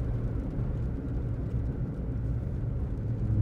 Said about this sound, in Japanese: 車は止まる。検問のようだ。